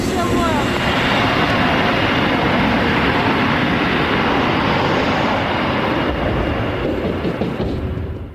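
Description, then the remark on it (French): A steady, loud roar of airplane engines during takeoff, broad and rumbling with a faint whine on top, holding constant for several seconds before easing slightly at the end. “À quelques minutes du décollage, la femme congolaise s'épuise.”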